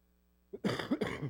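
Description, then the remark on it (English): A short throat-clearing cough with two rough bursts in quick succession, loud against an otherwise quiet background. “Forgive me for my cough.”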